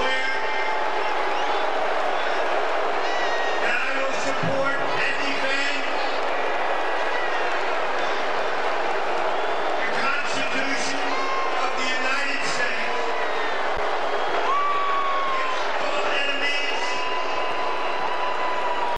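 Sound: stadium crowd booing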